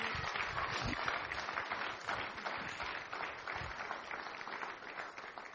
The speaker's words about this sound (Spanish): Un aplauso a la iglesia local.